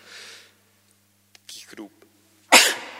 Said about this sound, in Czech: Kýchnul jsem.